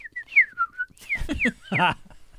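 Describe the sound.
A person whistles an imitation of mockingbird song: a few short, pure, high chirps and slides, then rougher, raspier voiced calls sweeping up and down in pitch, with no talking.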